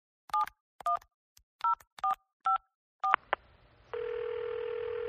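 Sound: telephone number being dialed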